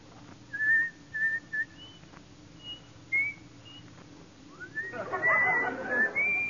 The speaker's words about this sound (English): Let me hear you whistle coming through the rye. Okay.